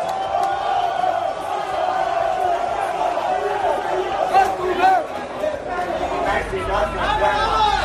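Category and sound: crowd, football fans chanting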